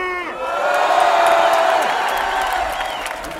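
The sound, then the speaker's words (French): A crowd of students at a gathering near Austerlitz station, called on to make noise, erupts in loud, sustained cheering and whooping, many voices rising together into a bright, high-pitched roar that holds steady for a few seconds before tapering slightly. “Et les étudiants, faites du bruit !”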